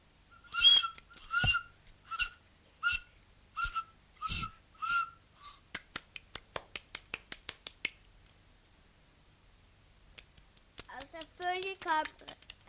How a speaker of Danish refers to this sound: Reven selvfølgelig også snart, fordi den havde hørt fuglen pipe op i træet, og så kom den nu.